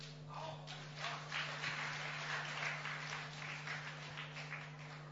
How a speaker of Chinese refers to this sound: 感谢大家掌声鼓励啊！